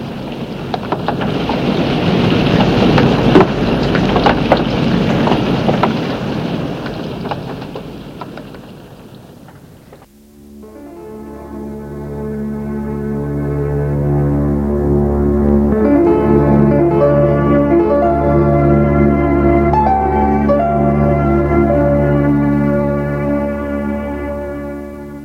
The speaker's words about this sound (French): On entend le bruit de la pluie, mais lui ne l'entend pas.